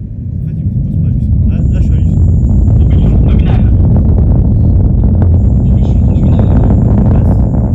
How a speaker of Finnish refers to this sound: Nestevetyä ja nestemäistä happea käyttävän suuren moottorin ärjyntään sekoittuu kahden kiinteää polttoainetta käyttävän apuraketin voimakas rätinä. Tuloksena on tällainen ääni.